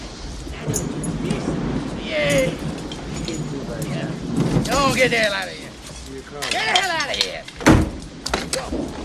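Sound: door opening and closing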